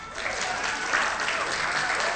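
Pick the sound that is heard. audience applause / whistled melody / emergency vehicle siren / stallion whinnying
audience applause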